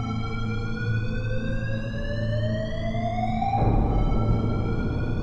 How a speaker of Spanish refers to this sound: El director no tardó ni 15 minutos, justo cuando estaba llegando, se volvió a encender la alarma.